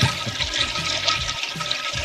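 A toilet-flushing sound effect played from a soundboard on a loop, a steady, loud, rushing swirl of water with gurgling low tones underneath and no voices.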